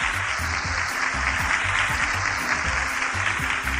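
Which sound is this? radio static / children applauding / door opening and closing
children applauding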